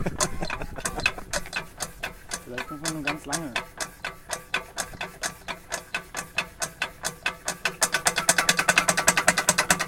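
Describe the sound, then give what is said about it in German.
A hand water pump is worked hard in a steady, fast rhythm to draw water until water starts to flow, each stroke giving a sharp mechanical clack that speeds up and grows louder toward the end, while a person speaks briefly over it. “Man muss mit äußerster Brutalität gegen diese Pumpen vorgehen.”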